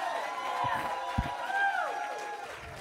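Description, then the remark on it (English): A church audience claps and shouts praise to God together during a worship service, a steady, crowded wash of cheering and voices, with sustained organ-like tones ringing underneath. “And everybody gave God a hand clap and a shout of praise.”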